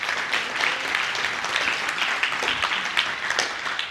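Steady audience applause from many hands, a dense, even crackle of claps at moderate loudness that holds throughout without pause and with no voices over it.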